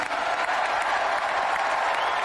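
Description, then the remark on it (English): A crowd of 20,000 in the Capital One Arena cheers and applauds steadily as Donald Trump signs an executive order withdrawing the U.S. from the Paris Climate Agreement, a dense, loud roar of clapping and voices that holds at an even level throughout without pause. “So you hear him signing this in the Capital One arena with 20,000 people cheering.”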